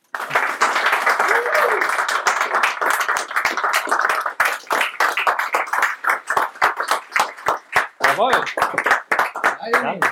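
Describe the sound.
An audience applauds an award winner, a dense wash of clapping that thins toward the end into scattered individual claps, with a few voices and cheers rising over it.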